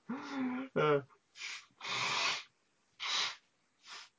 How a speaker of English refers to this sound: blowing my nose here.